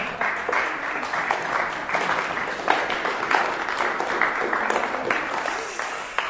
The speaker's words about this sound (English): Well done. A round of applause, I think.